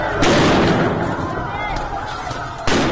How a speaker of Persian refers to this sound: گزارش‌های منتشر شده در شبکه‌های اجتماعی از تیراندازی مستقیم ماموران حکومتی به سوی تظاهرکنندگان در زاهدان حکایت دارند.